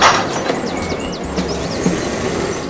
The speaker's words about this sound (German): Was wird mir denn da von der Modellbahnanlage? Vorsicht bei der Abfahrt.